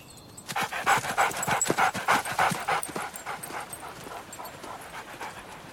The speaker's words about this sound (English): The two men set off through the forest with a police tracker dog.